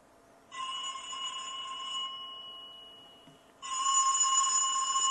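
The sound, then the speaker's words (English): The ringer of an LG VX4650 cell phone rings in two bursts of bright, steady electronic tones, the second louder after a short pause, with no voices. “I'm going to call my cell phone so we can verify that our ringer is working.”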